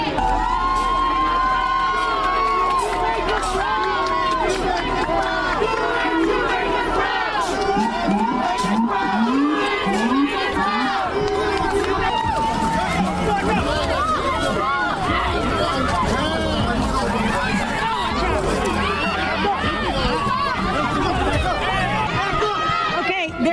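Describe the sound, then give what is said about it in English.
A large crowd shouts and chants loudly and continuously at police arresting someone, many overlapping voices forming a dense, agitated roar with rhythmic calls of "shame" rising through it, sustained for the whole stretch. “People are shouting shame.”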